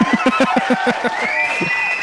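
A recorded crowd cheering taken from YouTube and played in the Waiheke Radio studio: a dense, continuous roar, with quick clapping-like bursts and a high whistle-like tone rising through the noise, loud throughout.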